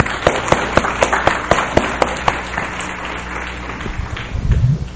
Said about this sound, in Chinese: 那我就把以下的时间啊，我就交给啊这个三立玉哈的…，我们一起鼓掌的欢迎他们。